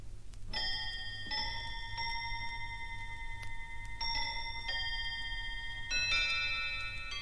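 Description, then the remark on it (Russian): A table clock strikes the third quarter past six with a series of about six clear, ringing chimes in a ding-dong pattern, each tone lingering, over a faint low hum and no voices. “Между тем столовые часы пробили третью четверть седьмого”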